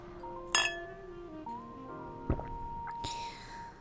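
Glasses of liquor clink together in a toast, a bright ringing chime followed by a few lighter taps and clinks, their tones lingering and ringing out.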